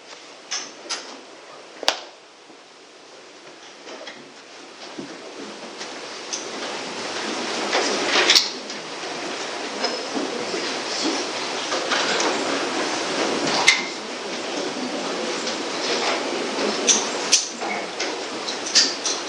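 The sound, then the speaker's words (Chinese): Chairs at the front scrape and shuffle across a floor for a sustained stretch as they are arranged into a circle for a group discussion, with occasional sharp knocks and clunks as they are dragged and set down, with no one speaking. “好，没有，那我们弟兄姊妹就把前面的椅子可以围成一个圈，可以一起来讨论分享。”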